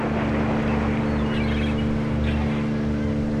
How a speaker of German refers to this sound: Während das Boot über die Wellen hüpft, versammeln sich die Touristen und Crewmitglieder im Salon zur Vorbesprechung.